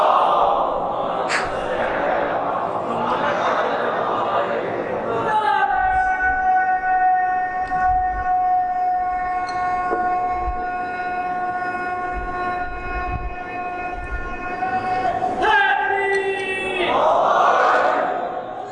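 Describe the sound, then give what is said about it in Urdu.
An audience chants salawat, blessings on Muhammad and the family of Muhammad, together in one loud, sustained unison tone lasting about ten seconds, framed by bursts of crowd noise and cheering before and after. “دوبارہ ایک گروپ بھیجیے محمد عالم محمد پر.”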